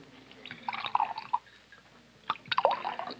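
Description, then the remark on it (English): Liquor glugs from a bottle into a glass at a bar in two short bursts of pouring, with gurgling and splashing, moderately quiet, with no talking. “Set out a couple of glasses in that bottle you've got your hand on. We'll pour our own.”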